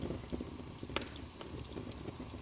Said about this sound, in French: Accompagné par les bruits réguliers et apaisants qui remplissent l'air, comme une mélodie réconfortante. écoute les flammes qui dansent et chuchotent, produisant des murmures délicats et rassurants.